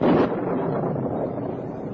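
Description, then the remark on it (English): A heavy, rolling rumble of thunder during a rainstorm bursts loudly at first, then settles into a steady roar that fills the whole stretch with no voices. “Oh, if only the thunder and lightning would stop.”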